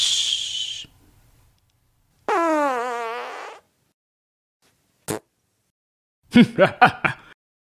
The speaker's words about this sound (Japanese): しー。会場のちびっこ、騙されたな。これぞ忍法、おなら返しの術。